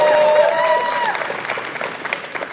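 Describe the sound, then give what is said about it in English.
An audience cheers and screams loudly to vote for the video game Symphony of the Night, with a few high-pitched shrieks standing out at the start, then settling into sustained applause and shouting that gradually tapers off. “Who wants to scream for that one?”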